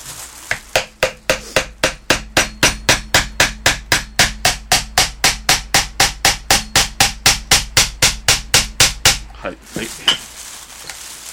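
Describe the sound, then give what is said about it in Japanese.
A rapid, steady series of about thirty hard hammer blows on an object, loud, each strike sharp and evenly spaced, ending abruptly with a brief rustle after. “思い切り叩くかね、それ台所かどっかで。”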